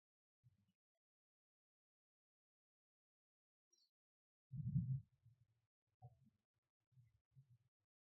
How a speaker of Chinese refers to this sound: 好，静下来，慢慢的，你可以听到了自己的心跳。